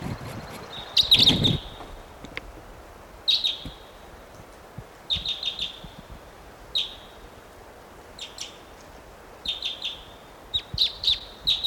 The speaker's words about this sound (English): What a wild bird.